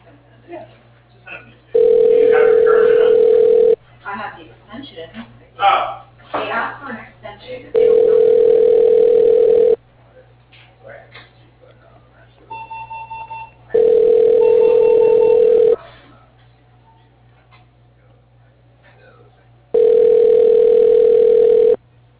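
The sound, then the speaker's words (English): A telephone line rings four times before an answering machine picks up, each ring a steady, low humming tone lasting about two seconds, separated by longer pauses filled with faint muffled sounds and voices. “We can't come to the phone right now, but if you would please leave us a message, we'll call you as soon as we can.”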